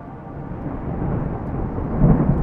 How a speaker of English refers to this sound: A fresh crack of lightning scorched the sky, and the heavens opened. Rain lashed against the thick glass of Harper's viewport.